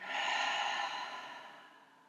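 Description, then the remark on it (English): A single slow, deep breath in and out during a guided meditation breathing exercise, a soft airy rush that starts full and gradually trails away over a couple of seconds, with no talking. “And in and out. And once more in and out.”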